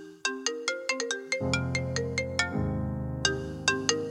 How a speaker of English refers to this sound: That's not my phone. Hello. Hello. Hello. Is that the phone? Did you get over the way this? The phone, yeah, it's part of this mashup. Oh, I get it.